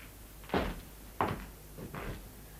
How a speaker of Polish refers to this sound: Przymknąłem drzwi.